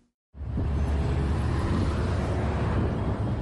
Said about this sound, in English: Traffic moves at a snail's pace in the upscale neighborhood suburb of Runda, and few people can be seen on foot.